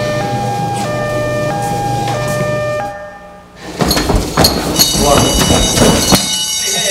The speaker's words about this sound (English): No. The alarm. We're just training.